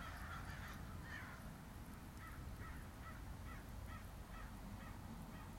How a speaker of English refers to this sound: As I record this meditation, I'm outside and you can hear birds.